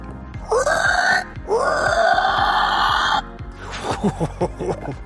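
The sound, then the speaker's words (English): A man's voice imitates a dying pig's squeal: two long, loud, strained shrieking screams, followed by a series of rapid, choppy gasping grunts. “And what kind of noises? Dying pig.”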